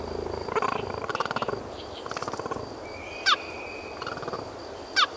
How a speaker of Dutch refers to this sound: Weet jij trouwens wat voor geluid een cheetah maakt? Nou maatje, laat maar horen.